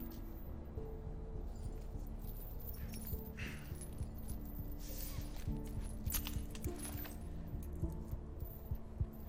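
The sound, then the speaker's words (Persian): A ring of keys jingles and clinks several times, brief metallic rattles over a steady low rumbling background with no one speaking. “چرا کلید همه دست توه؟”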